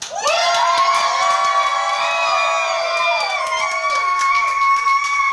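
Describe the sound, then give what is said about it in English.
An audience erupts in loud, sustained shouting and cheering, many voices overlapping in a high, dense roar that holds steady for several seconds with scattered claps. “Then he says, shout!”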